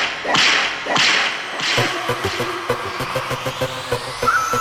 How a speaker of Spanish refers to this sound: Castígala, dale un latigazo. Ella se está buscando el fuetazo.